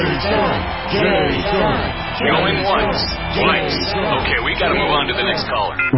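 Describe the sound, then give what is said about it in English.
A dense crowd of voices cheers and shouts together loudly, calling out a name, with overlapping calls rising and falling in a rhythmic, chant-like swell that carries through the whole stretch. “Cheering crowds surround you, calling out your name.”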